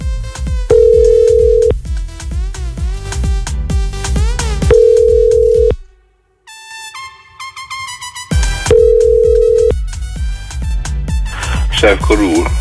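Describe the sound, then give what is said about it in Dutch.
A telephone rings in a short burst of electronic tones as a prank call is placed, during a pause in a punchy, beat-driven jingle, then the loud music kicks back in. “Zo'n heel ouderwets oldschool prank call.”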